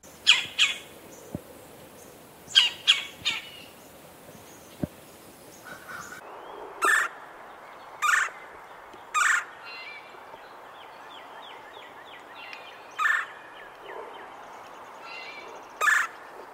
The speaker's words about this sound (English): The red-bellied woodpecker, which doesn't have much of a red belly, makes a series of chir or cha notes, as well as a rolling chir call that is reminiscent of science fiction laser fire.